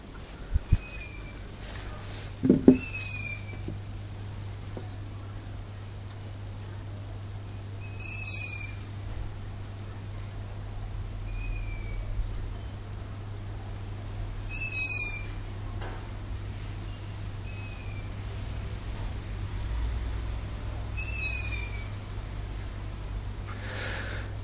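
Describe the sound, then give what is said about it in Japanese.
An owl calls repeatedly outdoors at night, thin high-pitched trilling notes in short bursts every few seconds, over a steady low background hum with no talking; about three owls have been confirmed, one perched on a TV antenna on a house roof. “これはですね、フクロウの声なんですよ。”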